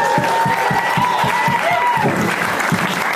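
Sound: one person clapping hands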